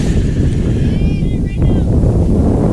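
Steady, gusty wind buffets the microphone outdoors at a baseball field in the Northwoods, with a heavy low rumble, while faint high whistling tones drift in and out above it throughout.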